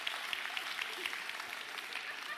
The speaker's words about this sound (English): And so with that said, I want to release our awesome kids' church and our youth group with a big round of applause.